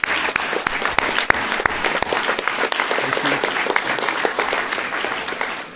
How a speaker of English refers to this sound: Maybe we could give them all a round of applause.